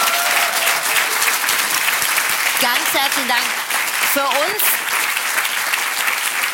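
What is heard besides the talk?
audience applause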